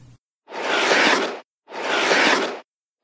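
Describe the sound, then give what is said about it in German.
Ice skates glide across ice in two long, smooth strokes, each a broad hissing scrape of about a second, separated by a brief pause, with no talking. “Hast du das Geräusch erkannt? Dann hast du es sicher selbst schon einmal ausprobiert. Schlittschuhlaufen.”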